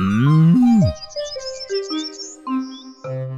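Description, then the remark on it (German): A cow moos in long, low, drawn-out bellows, the first sliding downward, the later ones held at steady pitches, while bright little chirps twitter faintly above. “Kuh sein, yeah, das ist fein.”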